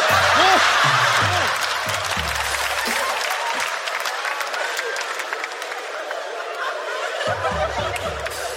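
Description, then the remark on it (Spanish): A small audience gives thin, scattered applause, only two people clapping in answer to a call for those who are virgins waiting for marriage; individual claps audible, while voices and snickering laughter come through at the beginning and again near the end. “Castos, y están esperando el matrimonio para que esto suceda, aplauda.”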